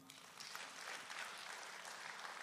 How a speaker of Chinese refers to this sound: 给神一个掌声。